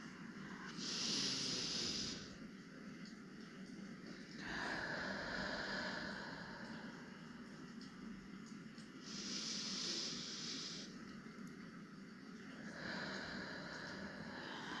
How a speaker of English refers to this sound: Listen to the sound of my breathing.